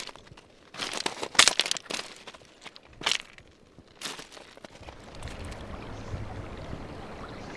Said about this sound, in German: Gemächlich plätschert die Emme vor sich hin. Für einen Herbsttag führt sie ungewöhnlich wenig Wasser.